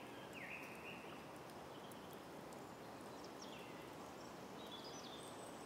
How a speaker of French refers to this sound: Vous percevez le chant des oiseaux.